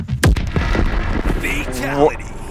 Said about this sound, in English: Cyrax steps out and releases a load of explosives from his metal chest, which surround the victim. They detonate, shattering the earth into a million pieces.